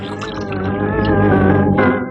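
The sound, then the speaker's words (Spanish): A strong white liquor glugs steadily into a glass for about two seconds, poured for the fourth time, a fairly loud gurgling pour with a resonant, ringing tone and no voices. “El coronel Boris se sirve por cuarta ocasión un vaso de líquido blanco y fuerte, levantándolo en actitud de triunfo.”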